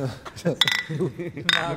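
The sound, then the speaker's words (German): Glasses clink together in a toast, twice, each a bright ringing tap about a second apart, while people chat over the sound. “Prost, vertrauen wir uns wieder.”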